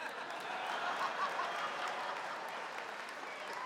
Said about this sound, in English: Y'all can clap for that shit.